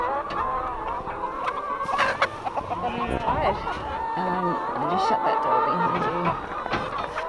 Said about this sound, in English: So how many hens do you have here now? So we have around 1,000 hens at the moment on the farm.